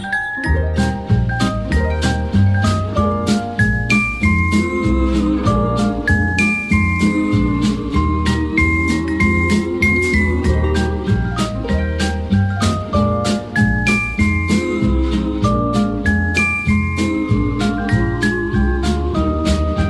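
Sleigh bells jingle in a steady, bright rhythm throughout, riding over an upbeat instrumental tune with bouncing bass and melodic notes, fairly loud.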